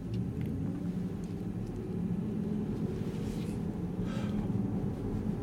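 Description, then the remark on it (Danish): A steady low rumble of tyres rolling on the road, heard from inside a quiet CLA electric car with slightly wider rear tyres than front tyres, continuous and even with a faint hiss above it and no engine sound. “Det, man hører i øjeblikket, det er faktisk lyden fra hjulene.”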